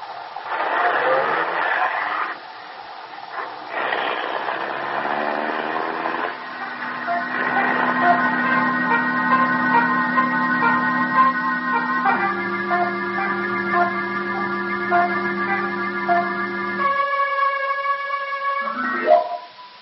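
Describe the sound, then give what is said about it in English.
A car engine hums and whines steadily, shifting up in pitch in distinct steps as if changing gears while the car drives off carrying Mr. Winthrop and a woman companion, loud and continuous with no talking. “Car drives off, we wonder what this conversation means.”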